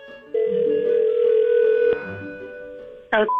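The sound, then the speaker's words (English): A telephone rings out on an outgoing prank call to a florist: one long, steady electronic ring tone lasting over a second, then a pause before a short burst of sound at the end. “This is where we prank phone call a florist and see what dumb things we can get them to write on a card.”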